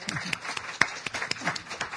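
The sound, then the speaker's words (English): A crowd claps in applause for a speaker, a dense patter of overlapping sharp hand claps at a steady moderate level, with no voices. “So let us all give our speaker a good round of applause.”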